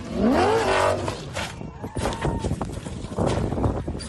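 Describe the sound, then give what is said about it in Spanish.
A rally car's engine revs with a rising whine, then a series of heavy thuds and crunching impacts as it lands off a dune jump and rolls over; Fernando Alonso's crash on a stage of the Rally Dakar. “Ahí está el salto en la duna y las vueltas de campana de lo que ha sido hoy Carlos Miquel, la imagen del día, el accidente afortunadamente sin consecuencias del piloto español.”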